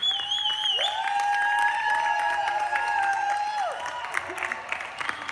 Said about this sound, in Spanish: Mamá, ¿pero por qué aplaudimos a quienes trabajan en los hospitales si no nos pueden escuchar?